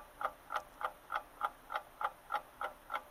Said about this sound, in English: Is it just ticking? Do we get the alarm? It looks like it's almost going to go off. Like, it's an actual, like, film here of a live alarm clock. It looks like something's going to happen here. Like, it's like an old school alarm clock with the ding.